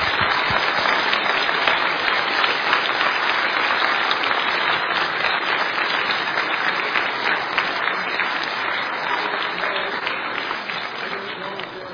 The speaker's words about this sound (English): Let's give them another round of applause, please, tonight.